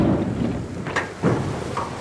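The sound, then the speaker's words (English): A huge, heavy, floatable 23-foot metal section of a temporary bridge, folded in half, is unloaded and springs open in the Sandpit River at Georgetown, South Carolina, as the South Carolina National Guard builds a makeshift span; a deep rumbling wash broken by three clanging thuds about a second apart, with no voices. “That's the sound it makes, but it's really a huge, heavy, floatable section of a temporary bridge, one of seven the South Carolina National Guard is using to build a makeshift span.”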